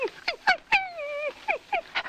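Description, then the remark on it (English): A man imitates Asta, the wire-haired fox terrier of The Adventures of the Thin Man, whimpering to beg for attention: a few short, high whines, then one long drawn-out whine, followed by more quick pleading whimpers, clear with no talking. “Asta begs for attention.”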